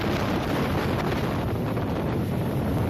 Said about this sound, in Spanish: Así sonaba el viento, ese viento fortísimo, con rachas de hasta 80 kilómetros por hora y olas de hasta 10 metros.